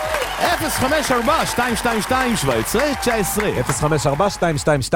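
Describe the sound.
Audience applause, a steady patter of many hands clapping, running loud under overlapping voices that rise and fall in repeated sung or cheered phrases.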